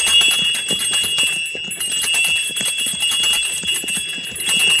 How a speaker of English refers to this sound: Now I'll ring the bells and attract a little attention.